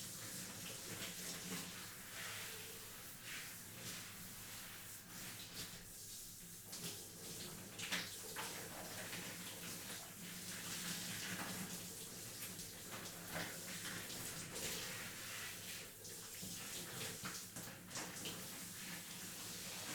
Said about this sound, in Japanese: それでは、シャワーで泡を流していきますね。